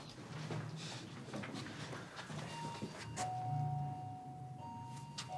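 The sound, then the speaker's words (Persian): An electronic door intercom buzzes as a visitor stands at it, with a steady, moderately loud tone, sounding twice in the second half over a faint indoor background hum, with a couple of soft clicks. “فرشاد پشت آیفون ایستاده.”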